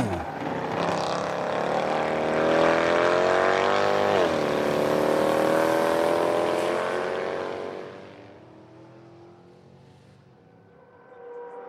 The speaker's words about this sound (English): Tires burn as cars zoom on race day.